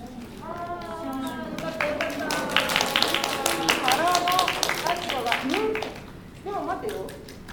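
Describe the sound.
Brisk, irregular congratulatory hand clapping builds into a dense patter of celebratory applause, mixed with voices calling out over it, then tapers off near the end.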